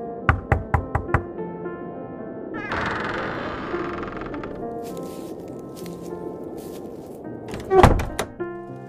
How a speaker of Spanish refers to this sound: Hasta que vio una casa y llamó a la puerta.